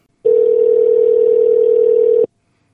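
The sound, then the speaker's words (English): A steady telephone dial tone hums at one constant pitch for about two seconds, loud and clear with nothing else around it, then cuts off abruptly. “But I think first, while we're waiting, we need to go to a phone call.”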